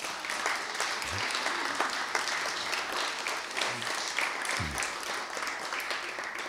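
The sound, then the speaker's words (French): An audience applauds a person present who pasted up photocopied faces for an exhibition: a dense, even wash of many hands clapping that holds at a constant level for several seconds, with a few low murmurs from the audience underneath. “On en profite pour l'applaudir.”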